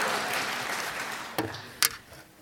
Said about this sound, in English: You've never clapped like that for me as I've come to the podium. Thank you for clapping for me.